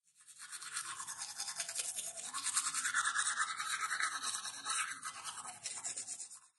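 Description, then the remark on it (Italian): Someone brushes their teeth with a toothbrush, a steady, scratchy back-and-forth scrubbing for several seconds with no talking. “Il suono di quando ci laviamo i dentini.”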